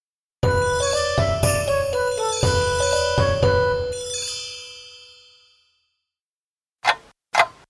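A clock chimes a short run of bright, ringing tones that fade out slowly, followed after a pause by two crisp tick-tock clicks. No one speaks.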